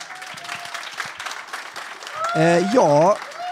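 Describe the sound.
A short burst of steady applause from a small group, continuing throughout, with a voice rising over the clapping toward the end.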